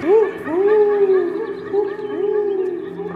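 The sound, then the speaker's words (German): A person imitates an owl into a microphone at a children's show by Australia's Polyglot Theatre, with long, wavering voiced hoots that rise and fall in pitch, three or four drawn-out calls in a row over a low steady hum, resounding through the room. “Und als mein Eulenruf dann im Raum erschallt, da fühle ich mich für einen Moment sehr glücklich und hoffnungsvoll.”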